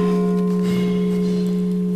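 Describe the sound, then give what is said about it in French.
The church bell of Saint-Cyrien rings loudly, its deep, sustained tones humming steadily throughout, with a fresh strike swelling partway through. No one speaks over it. “Ah, nous allons laisser passer la cloche, parce que nous n'avons pas les moyens de faire autrement, mais un très joli son, la cloche de Saint-Cyrien.”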